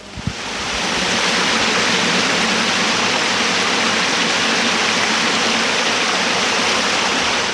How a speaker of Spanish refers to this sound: Estamos al lado de un sumidero de aguas lluvias. Tiene basura, pero cae bastante agua.